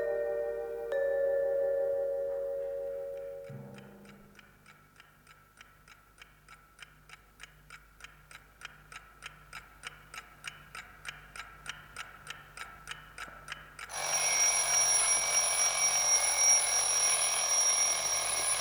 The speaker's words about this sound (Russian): Простите, пожалуйста. Это ребята завели будильник, чтобы мы с вами не проспали.